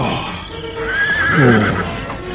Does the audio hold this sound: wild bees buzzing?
no